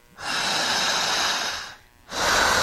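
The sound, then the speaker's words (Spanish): Slow, deep, strong breathing by a woman doing a breathing exercise: one long, steady breath lasting over a second, a brief pause, then another strong breath begins, her chest swelling and shoulders rising, airy and loud with no talking. “descríbanme, por favor, ¿cómo es la respiración”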